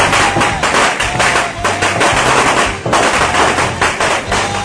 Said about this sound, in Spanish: De una ametralladora de cohetes que llena toda la iglesia donde están.